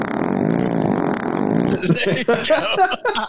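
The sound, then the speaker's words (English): A loud, sustained, buzzy fart sound effect plays for nearly two seconds, then cuts off abruptly as people start talking. “play the fart real quick”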